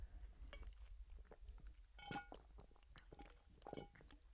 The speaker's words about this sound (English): Oh my gosh, I'm out of my water. I took 3 big sips, so you should. Oh, that was really loud.